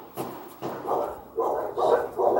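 Dogs bark in a steady series of about five sharp, rough barks during a nighttime shooting, each bark following closely after the last, with no talking.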